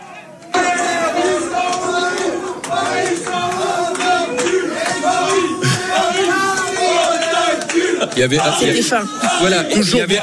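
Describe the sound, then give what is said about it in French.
A packed crowd in the Nulle Part Ailleurs bar-restaurant chants and cheers loudly after the final whistle of a football match lost by the Paris players. Many voices sing together in a steady, rhythmic stadium-style refrain, with shouts and some clapping mixed in. “Et lorsque le coup de sifflet final a été donné, qu'on a vu les joueurs parisiens tomber à genoux, être dépités, voilà l'ambiance dans le bar-restaurant Nulle Part Ailleurs.”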